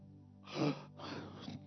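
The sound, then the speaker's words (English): A sharp, breathy gasp from an audience member in a church, followed by a second drawn-out intake of breath, with no talking. “I didn't hear one amen. I heard a gasp.”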